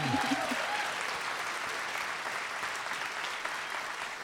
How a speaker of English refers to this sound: Round of applause for those cute animals.